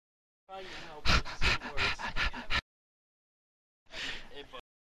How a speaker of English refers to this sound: They're panting now.